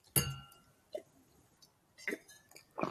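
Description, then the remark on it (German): Glasses of red wine from the Rhine clink together in a toast: one bright, ringing chime that hangs briefly, followed by a couple of softer glassy taps and sips, with no talking. “Und ich würde sagen, Prost, ne?”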